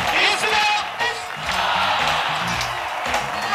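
A large, energized crowd at an Al Gore rally in Florida during the 2000 election cheers and shouts continuously in the middle of the night at 73 degrees, a dense roar of many voices with scattered whoops rising above it, loud and sustained throughout.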